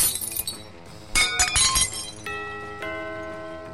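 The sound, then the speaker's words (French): Dishes smash in a loud burst of breaking glass and crockery, several sharp crashes in quick succession, followed by lingering high ringing tones as shards settle. No voices. “Tu vas voir où elle va passer la vaisselle.”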